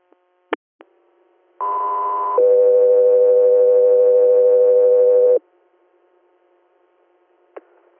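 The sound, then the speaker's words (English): A loud two-tone radio dispatch alert: a higher steady tone for under a second, then a lower one held about three seconds, framed by sharp radio key-up clicks and faint static. “stand by for tones.”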